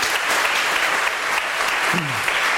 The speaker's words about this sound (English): Very good. I briefly feared I was going to suffer the Ian Duncan Smith fate of the zero applause performance, but we got there in the end.